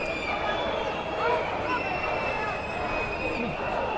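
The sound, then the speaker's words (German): A large outdoor crowd roars and cheers continuously, with sustained shrill whistles cutting through the dense hubbub, as Nazi marchers turn around and take an alternative route; loud and steady throughout, no clear single voice standing out. “Begleitet von Jubel und Pfeifen nehmen sie scheinbar eine alternative Strecke.”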